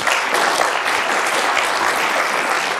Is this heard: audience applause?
yes